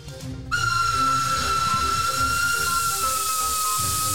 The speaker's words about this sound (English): Is that the first train ever invented?